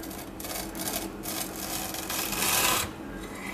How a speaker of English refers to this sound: Now for this, you want to get like wafer fingers, something like this, and choose these ones. These are the vanilla ones. Just get a sharp knife and you just cut it right down the middle.